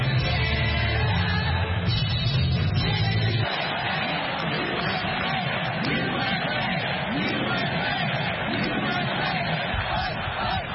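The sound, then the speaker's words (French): A huge convention crowd of delegates cheers and chants without pause as the former president enters, a dense, loud roar of many voices filling a huge hall decorated in blue and red, with a deeper swell in the first few seconds before the noise evens out. “l'ancien président a levé le poing en entrant dans l'immense salle décorée de bleu et rouge sous les acclamations des délégués qui l'ont officiellement désigné pour être leur candidat à la présidentielle du 5 novembre.”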